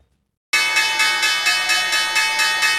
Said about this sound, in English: The closing bell at the New York Stock Exchange, signalling the end of an historic day on Wall Street, as concern grows across global markets about the coronavirus pandemic.